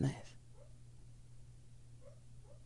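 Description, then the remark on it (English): A sleeping female puppy lets out a soft, muffled dream bark while dreaming, followed by a few faint, quiet whimpering yips spread apart, all over a steady low background hum. “That's a dream bark.”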